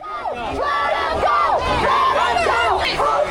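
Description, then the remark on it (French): A large crowd chants and shouts "Cassez-vous d'ici !" ("Get out of here!") at about thirty police agents trying to force a passage during a raid, many raised voices overlapping in loud, rising-and-falling cries that repeat in a steady rhythm, with no break in the din. “Les personnes scandent « Cassez-vous d'ici !» tandis que la trentaine d'agents tentent de se faire un passage avec leurs armes chimiques.”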